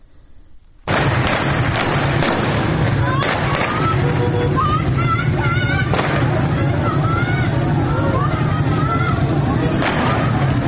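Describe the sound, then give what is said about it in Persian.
Sharp gunshots crack out repeatedly over the constant roar of a large shouting crowd of protesters throwing stones at a police post during a clash with police officers in Fanuj county, Iran, on a Tuesday evening; several bursts in quick succession, then scattered single shots, loud amid yelling voices. “ویدیوهای منتشر شده در شبکه‌های اجتماعی نشان می‌دهد که معترضان به سوی یک پاسگاه سنگ پرتاب می‌کنند و در پس زمینه صدای شلیک گلوله شنیده می‌شود.”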